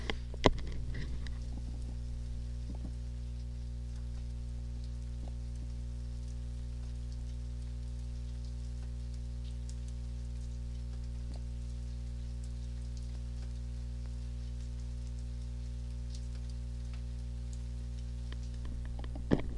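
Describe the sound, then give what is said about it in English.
Steady, heavy rain patters on surfaces outside in San Diego, heard through an open window as a constant soft hiss with scattered drips, over a low steady hum. No one speaks. “There's that beautiful but very rare San Diego rain.”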